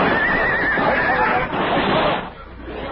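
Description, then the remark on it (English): Horses whinny loudly, one shrill, wavering neigh followed by more strained cries amid a noisy commotion that drops off toward the end, as the horses go down on a canyon floor under rifle fire. “Our horses went down, and the six of us were trapped on the canyon floor.”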